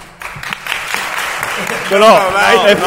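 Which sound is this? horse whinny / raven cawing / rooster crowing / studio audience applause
studio audience applause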